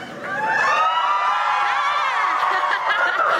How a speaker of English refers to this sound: But we'll be recording this, so the louder you cheer, the louder you'll be on the podcast.